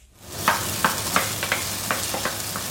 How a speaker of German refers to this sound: Hähnchenfleisch brutzelt in der kleinen Küche des Hotels für den asiatischen Mango-Chicken-Salat